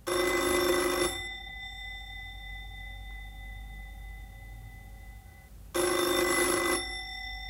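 A telephone in an apartment rings twice, each bright, buzzy metallic burst lasting about a second, with a long pause and a faint lingering tone between them. No one speaks.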